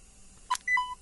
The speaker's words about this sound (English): In this case, I was using the rewind button. So I pressed in and held in the rewind button until I heard a signifying beep, and we'll hear that again.